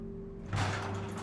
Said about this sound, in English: Later, a garage door is raised, revealing the Mercedes.